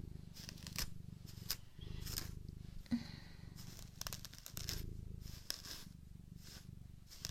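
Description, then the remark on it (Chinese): A cat purrs steadily while being handled and groomed, its loose shed fur flying everywhere, with repeated rustling, scratchy strokes like fur being brushed or combed through in uneven bursts, working out a knot in the fur. No one speaks. “咿呀，你看看你这浮毛，满天飞了。”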